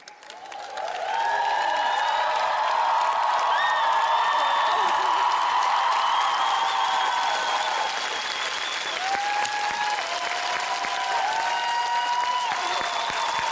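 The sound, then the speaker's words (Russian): Sustained audience applause seeing off a woman and her daughter, loud and steady, with a dense patter of clapping hands lasting over ten seconds, accompanied by bright musical tones and a few faint cheers. “проводим их бурными аплодисментами.”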